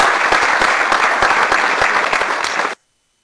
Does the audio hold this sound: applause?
yes